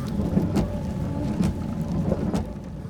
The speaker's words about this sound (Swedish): Regnet trummar mot vindrutan och torkarna låter som ett mantra.